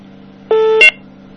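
A call-waiting caller ID beep: one steady mid-pitched tone about a third of a second long, then a brief, higher, buzzy data chirp, heard clearly over a faint telephone-line hum.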